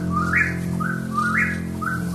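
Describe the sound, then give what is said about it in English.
A recorded whippoorwill repeats rising whistled calls, four close phrases in a steady rhythm, over a sustained low droning tone of woodwinds and strings, with no great horned owl hoots clearly standing out. “… has a dreamlike quality, with woodwinds and strings answering the recorded night sounds of the whippoorwill and the great horned owl.”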